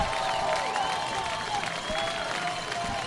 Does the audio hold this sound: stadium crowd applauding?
yes